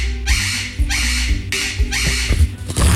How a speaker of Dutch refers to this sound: Zij houdt dus van het geluid van een papegaai die schreeuwt.